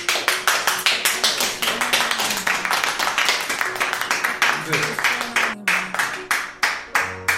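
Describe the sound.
An audience claps together in a steady, quick rhythm, loud throughout, with faint voices or sustained tones drifting underneath the beat.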